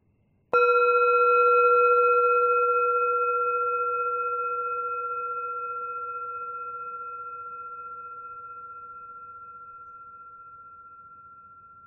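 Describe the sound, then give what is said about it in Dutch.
A single meditation bell is struck once to mark the start of a breathing-pause meditation, giving a clear, bright tone with shimmering overtones that hangs in the air and fades slowly over about eleven seconds, with no voices. “Als je de bel hoort, begint de meditatie.”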